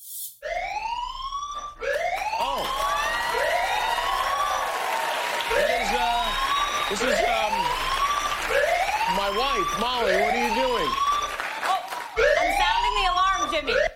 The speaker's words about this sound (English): I didn't know we had an alarm. Oh, we do. I didn't either. It was backstage. Okay. Why are you sounding an alarm you found backstage?